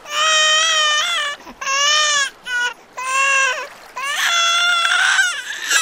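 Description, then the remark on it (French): A newborn baby boy, Kambarage, born on a rainy day in 1922 in the British colony of Tanganyika, cries loudly in four long, wavering wails, each broken by a brief gasping pause, the high, strained voice rising and falling in pitch. “Dans cette même colonie, un jour de pluie, un enfant voit le jour.”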